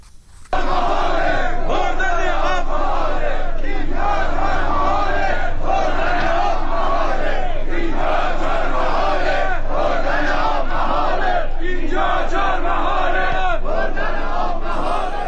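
A large crowd of protesters over drinking-water shortages in Chaharmahal and Bakhtiari province, Iran, shouts and chants together continuously, a loud, dense roar of many voices rising and falling in waves for the whole stretch, with no single voice standing out.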